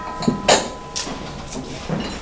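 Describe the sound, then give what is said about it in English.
A wooden umpan board in a dining room is struck about five times before a meal, each sharp, hollow knock ringing briefly, spaced unevenly roughly half a second apart over a faint steady hum, with no talking. “Everybody stands up formally and waits for the end of the umpan before going to take their food.”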